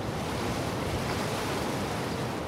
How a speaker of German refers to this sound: Schlammiges Wasser aus dem Binnenland drängt durch die weit geöffneten Sieltore in das Hafenbecken.